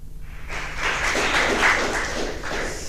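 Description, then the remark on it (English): An audience applauds to welcome a speaker to a talk on open source and high performance networks, a dense, steady crackle of many hands clapping that swells in after a brief quiet start and holds at a fairly strong level for a couple of seconds. “Please welcome him with a big round of applause.”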